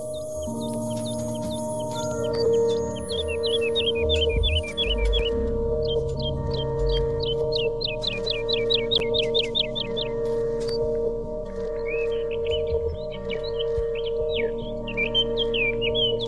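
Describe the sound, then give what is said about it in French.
A woodlark sings several phrases of fluting, repeated notes that roll in quick descending series, moderately loud against a steady low droning background, with no talking. “Une alouette Lulu.”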